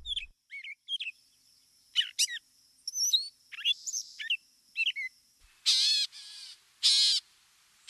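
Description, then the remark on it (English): A gray catbird sings a jumbled run of varied chirps, squeaks and whistled phrases, then gives several loud, harsh, raspy notes near the end. Clear, with no voices. “Catbirds are like mockingbirds that they can steal songs from other birds, even frogs and machinery.”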